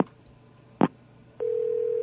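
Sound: telephone dial tone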